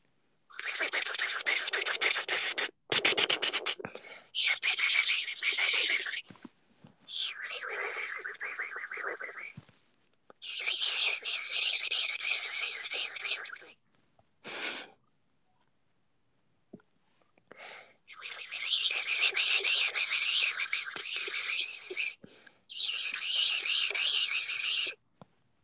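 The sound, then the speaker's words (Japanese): A person imitates cicada song with their voice, producing bursts of harsh, buzzing, high-pitched shrilling in repeated stretches of a few seconds each, separated by short pauses. “セミの鳴き声選手権出場します。”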